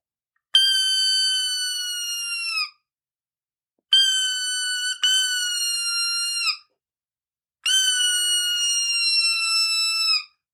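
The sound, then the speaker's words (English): A laminated wooden hawk call with a diamond-wood look, blown in three long, shrill, high-pitched screams, each about two seconds and sagging slightly in pitch at the end, the middle one briefly broken in two. No talking. “It's just your high pitched shrill, you know, like hawk.”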